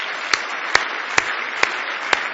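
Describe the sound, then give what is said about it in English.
A crowd of people clapping their hands together in praise of God, a dense, steady wash of applause, with a few louder, sharper claps ringing out at a regular beat. No one speaks. “Give Him a big hand clap of praise.”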